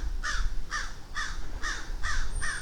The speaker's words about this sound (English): Well, apparently there's a crow out here. He's warning people now.